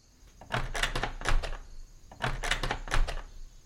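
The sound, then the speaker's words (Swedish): The handle of a front door in a hallway is yanked and rattled in two quick bursts, a cluster of sharp metallic clacks and knocks, loud, with no one speaking. “Det hade låtit som om någon hade ryckt i dörrhandtaget till ytterdörren i hallen.”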